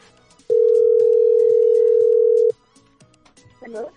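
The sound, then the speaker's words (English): A phone call ringing out to a competition winner: one loud, steady electronic ring tone lasting about two seconds, followed by quiet background sounds and a brief faint voice near the end. “All you need to do now is answer your phone.”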